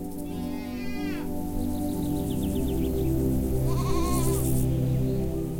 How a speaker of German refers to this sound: Er führt dich bergauf, vorbei an einem Holzverschlag, aus dem dir einige Ziegen entgegenkommen und dich neugierig anmeckern.